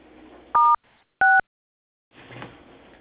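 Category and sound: signal or alarm, telephone keypad DTMF tones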